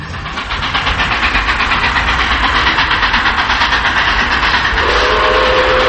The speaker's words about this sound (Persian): چند لحظه بعد صدای سوت قطاری اومد.